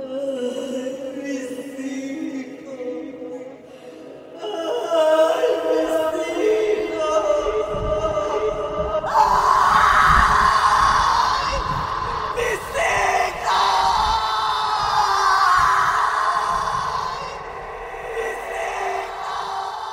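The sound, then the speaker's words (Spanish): A terrifying, drawn-out scream at night as a storm clears, heard as far as the village, builds from a low moan into loud, piercing wails that swell and waver for several seconds, layered over a deep rumbling drone, with no talking. “Y así, al disiparse la tormenta, en aquella noche iluminada por un tímido firmamento que observaba al hombre, se escuchó hasta el pueblo el grito que ha producido terror por siglos y generaciones.”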